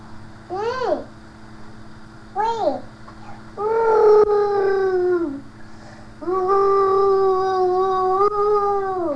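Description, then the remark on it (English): A dog howls in long, wavering drawn-out notes, preceded by two short rising-falling whimpers; loud, with a faint low hum underneath. “Nice doggy sounds.”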